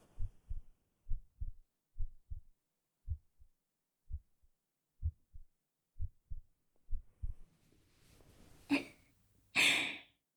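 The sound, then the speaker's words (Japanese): A heartbeat thumps in steady, deep double beats, about one per second, prominent for roughly eight beats, then gives way to a couple of soft breathy, rustling bursts at the end. “ほら、聞こえない？今の私があんたと同じくらいすっごくドキドキしてるってこと。”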